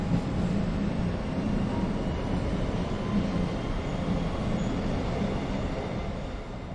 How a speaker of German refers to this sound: Nun verlassen wir sein Büro und fahren mit der U-Bahn raus ins Olympische Dorf, das heute zu den beliebtesten Wohngebieten Münchens gehört.